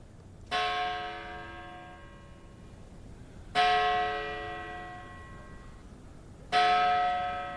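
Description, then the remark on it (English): A large church bell atop the carved Gothic entrance of Greenwood Cemetery in Brooklyn tolls three slow, evenly spaced strikes, each ringing out with a rich metallic hum that fades before the next, heard clearly with no voices. It tolls whenever a new body is received at the cemetery. “That's the bell atop Greenwood's carved Gothic entrance. It tolls whenever a new body is received at the storied cemetery, which opened in 1838.”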